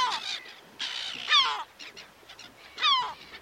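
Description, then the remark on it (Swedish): Gulls call out in a few harsh, squawking bursts, with brief pauses between them and one especially strident cry near the end, clear with no talking. “En taktik också, tror jag, att komma överens med till exempel måsar, tror jag, det är kanske att skaffa sig lite mer kunskap så att man förstår måsar eller ett annat ljudfenomen.”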